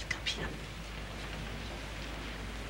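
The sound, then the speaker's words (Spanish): Steady rain falls in a continuous, even hiss on a deserted sports court, with a couple of brief sharper drips or splashes near the start. No one speaks, and the downpour stays at a constant, moderate level throughout. “La joven mira la desierta cancha deportiva empapada por la lluvia.”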